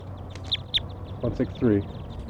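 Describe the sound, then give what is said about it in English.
A captured subadult female bird at a net site, at almost 3 p.m., calls: two short, high, thin chirps, then three lower, harsher nasal calls in quick succession, the last one longest, over a low steady background rumble. “So recording, I just caught a bird, subadult female.”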